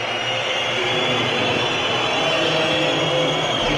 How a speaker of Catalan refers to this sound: 77-102 i escolteu, això serà el Palau Blaugrana en aquest moment. Acaba el partit. El Barça ha perdut de 77-102, de 25. Aquesta és la xiulada del Palau Blaugrana.